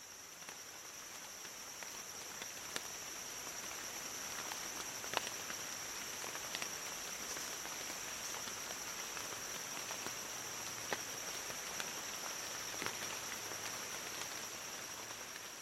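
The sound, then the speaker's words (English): Lowland rainforest ambience in Borneo with a steady, high-pitched drone of singing insects, while scattered raindrops tap irregularly on plant leaves. The whole scene stays soft and continuous, with no voices. “It is like the rain droplets on the plants are the percussion and the insects are singing in soprano.”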